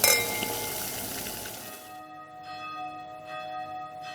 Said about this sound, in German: Ihr hört die Glocken, Leute. Es ist ja auch schon fast vor Weihnachtszeit.